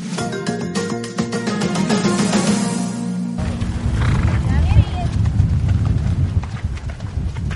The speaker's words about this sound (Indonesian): Di Mountain Hope, Arkansas, sejumlah orang terlihat menunggang kuda di atas padang rumput yang hijau.